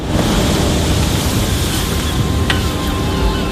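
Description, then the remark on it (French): Strong wind roars steadily at the seashore by a sea dike on a Dutch coastal beach, a loud, dense rush buffeting the microphone, with surf churning underneath and no voices. “Le vent souffle très fort lorsqu'une dame un peu dépressive vient se ressourcer quelques instants sur la digue au bord de la mer.”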